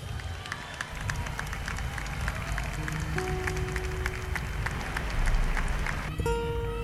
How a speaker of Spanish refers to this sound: Y con el aplauso de ustedes, Julián Ratti.